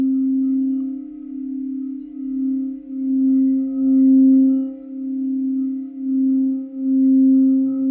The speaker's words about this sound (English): I've got these crystal bowls. I use them. Now, in some senses, they're like bells, but they can also be used to generate quite a challenging sound.